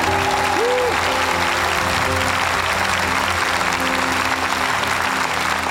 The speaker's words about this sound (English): Come on, give the Lord a clap offering, everybody. Thank you.